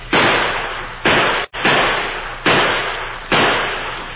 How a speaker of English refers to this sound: The Lone Ranger's plan had created an effective diversion. The outlaw Indians halted and returned the gunfire that came from a little house at the edge of the Pawnee Reservation.